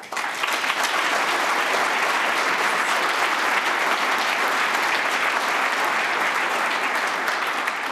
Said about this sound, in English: Please give him a huge round of applause.